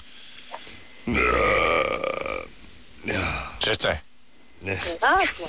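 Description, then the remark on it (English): A long, loud belch from someone full of garlic rumbles for over a second, followed by a few shorter guttural vocal sounds and murmurs. “Once in a while, I have to belch or something.”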